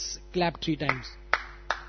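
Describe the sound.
A person speaks briefly, then three sharp hand claps follow, evenly spaced about a third of a second apart, each a crisp, bright slap that fades quickly.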